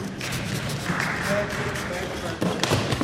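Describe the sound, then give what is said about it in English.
A single heavy thump of a person falling onto their backside while trying to ride a skateboard lands late, sharp and loud, over a steady background of murmuring voices and noisy commotion, followed by applause from the men watching. “You hear that thump and then the applause from the guys there? That's me falling right on my backside.”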